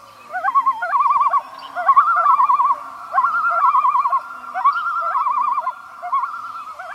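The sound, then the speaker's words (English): Eerie wailing calls of a common loon, long quavering tones that waver and yodel repeatedly for several seconds, clear, with no voices. “And the eerie wailing of the common loon.”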